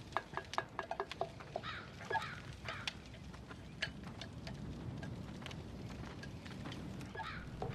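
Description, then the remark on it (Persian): A pot of water heats toward a boil, with a steady low rumble beneath scattered sharp ticks and small pops, busier at the start and then settling into an even murmur. “هی بچه ها، من یک کم آب گذاشتم تا جوش بیاد.”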